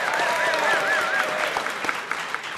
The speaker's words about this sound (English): All right, so we want to welcome our panelists. We've got four tonight, so this is a blockbuster. But let's get applause for each of them.